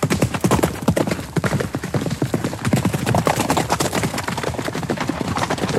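horse hooves clip-clopping

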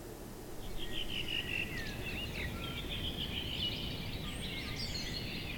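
birds singing

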